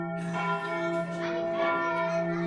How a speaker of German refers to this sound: Richtig, so eine große Kirchenglocke.